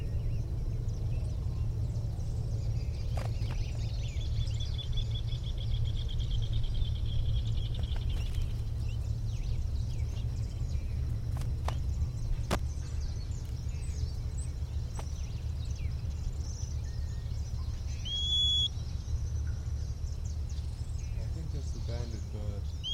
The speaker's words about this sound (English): Bird nearby, maybe giving that little whistle. Female's nearby, or at least the other bird is nearby, the banded individual.